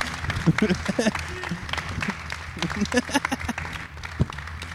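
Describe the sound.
An audience applauds in a steady, dense patter of many clapping hands that holds for several seconds, with a man's voice talking over it.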